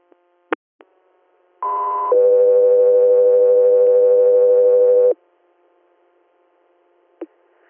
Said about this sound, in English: Go 3 Earth, standby for tones.